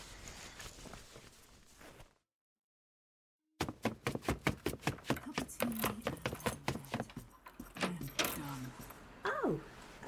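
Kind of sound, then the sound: household object, keys jangling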